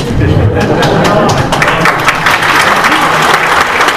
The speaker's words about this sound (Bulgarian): Приемам тези ръкопляскания за спонтанно.